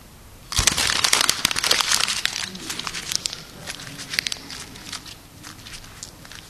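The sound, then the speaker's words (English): Crinkling and crackling of a piece of paper being crushed into a ball, a dense burst of sharp rustles that starts abruptly, then thins into scattered crackles as the crumpling slows. “It only takes a second, a couple of hundred general folds, and you can actually make a ball.”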